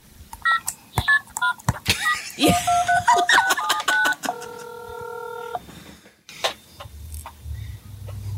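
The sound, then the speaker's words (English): A one-year-old toddler's toy cell phone beeps through a rapid string of electronic tones and dialing sounds, then holds a steady ringing tone before clicking off, fairly loud. “That's what sound my little daughter's cell phone makes.”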